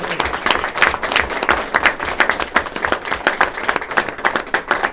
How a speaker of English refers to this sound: A little round of applause for this.